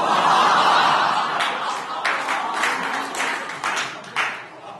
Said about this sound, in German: Wer klatscht denn da?